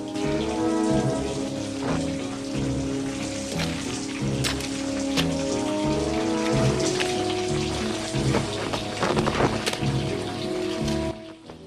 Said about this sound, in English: Rambo makes his way down a darkened tunnel with a flaming torch made from a stick. Water drips from the ceiling.